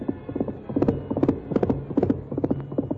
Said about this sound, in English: In spite of the rough ground where a misstep would have meant death for both horse and rider, Silver's hoofs beat out a savage tattoo.